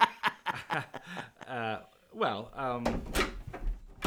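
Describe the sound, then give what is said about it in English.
A door creaks open with a wavering, drawn-out squeak and a low thump as Mayor Rika Mortis enters the studio unannounced, while voices chuckle and vocalize around it. “Why does no one knock anymore?”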